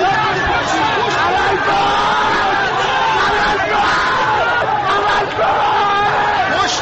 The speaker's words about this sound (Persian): اینجا محل درگیری میان معترضان و نیروهای ضد شورش است. چند نفر در میان جمعیت به سمت پل اشاره می کنند و ناگهان جمعیت هراسان و فریاد زنان به طرف پل می دوند.